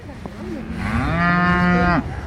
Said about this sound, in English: So what's happening right now is behind us, the cows are noisy because they want to be moved onto this area.